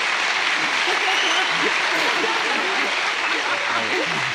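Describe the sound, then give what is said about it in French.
Steady, dense applause from a crowd at a speech by François Bayrou, a continuous hiss of clapping hands at an even loudness throughout, with faint voices murmuring underneath. “Je vous propose d'applaudir parce qu'il a été là tous les jours.”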